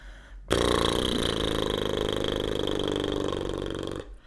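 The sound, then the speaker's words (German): A sustained lip trill done as a voice warm-up exercise, air blown out through fluttering lips like a helicopter or a snorting horse, holding steady and fairly loud for about three and a half seconds with a buzzing, voiced tone before stopping abruptly. “Oder wie ein schnaubendes Pferd.”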